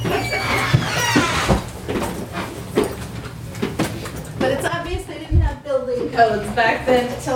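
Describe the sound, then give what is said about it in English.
Old wooden back stairs in an old house creak and thud under footsteps climbing at an irregular pace, moderately loud, with someone talking over the steps. “All these old houses, they just, they're nice and creaky.”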